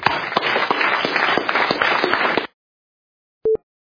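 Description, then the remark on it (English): An audience at an agency ceremony honoring colleagues claps steadily for about two and a half seconds, dense and fairly loud with a few sharper individual claps, then it stops abruptly; after a pause a short electronic beep sounds. “So let's give them all a round of applause.”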